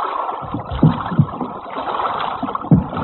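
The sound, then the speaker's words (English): A boat is dragged through water under a wall, with sloshing, gurgling movement and a few heavier surges of displaced water at irregular intervals, with no voices. “We'll drag the boat under the wall.”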